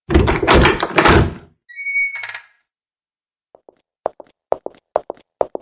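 Heavy thumps and a brief creaking scrape, then a run of firm, unceremonious footsteps that grow louder as they approach, each step a sharp knock, with no voices.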